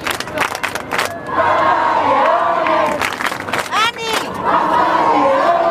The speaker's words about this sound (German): Dann kurz vor 9, große Unruhe, die erste Fahrt von Leo im Papamobil. Alle sind sofort auf die Stühle gestiegen, Fahne schwenken, Handy raus und dann die ersten Papa-Rufe.